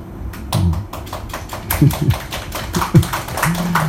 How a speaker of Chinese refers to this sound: 你们拍手，好那么多人拍手，好像是两个人在拍手的声音一样。